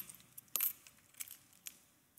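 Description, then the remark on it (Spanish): Coins drop and clink: one bright metallic strike rings out, followed by several lighter, scattered clinks over a couple of seconds, fairly quiet, with no talking. “Y las monedas.”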